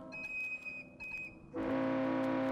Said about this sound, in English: David Frank's 1983 composition, Whistling in the Dark, with credits to Baker Whiteley's Manuel Alvarez for providing access to the tugboats.